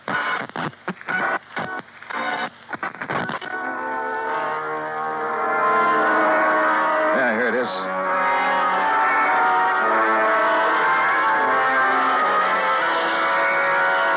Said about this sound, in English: This record on the turntable is the same one we were playing just before I left her. Look at it. Dolorima by Vingetti. Never heard of it. We shut it off because it got too noisy in the death scene from that opera, huh? Listen.